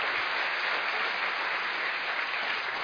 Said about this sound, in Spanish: Lo recibimos con un cariñoso aplauso.